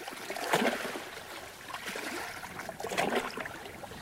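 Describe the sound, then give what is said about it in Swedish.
Paddles dip and swish through water as two kayaks glide out onto a lake, with two clear stroke splashes over a steady, soft wash of moving water, fairly quiet, with no voices. “De kliver i kajakerna och glider ut i vattnet.”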